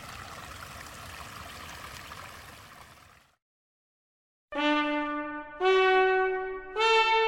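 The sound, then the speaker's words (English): A babbling brook in a test garden trickles and gurgles steadily for a few seconds, alone, then cuts to silence before loud, sustained bright musical tones begin in stepped notes. “that's where we'll leave you this morning, beside a babbling brook, in the Better Homes and Gardens test garden”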